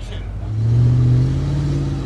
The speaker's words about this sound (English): They're filming a car chase in downtown Los Angeles. It's just one location John Panzarella found for the Justin Timberlake movie, Now.